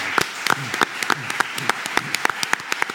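A burst of audience applause: dense, crisp handclaps in a fast, irregular patter at a steady level throughout, with faint voices murmuring underneath.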